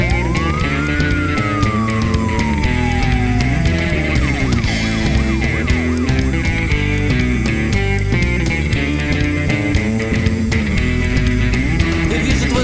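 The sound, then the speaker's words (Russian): A wailing police siren rises and falls over a loud, steady music track, its tone sweeping high then slowly dropping before quicker up-and-down wails follow, all under the dense beat. “выстрелы вверх, дым сигареты, время бежать, поют сирены.”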